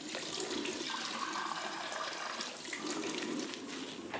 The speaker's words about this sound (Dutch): In de toiletten drinkt ze gretig van een kraantje.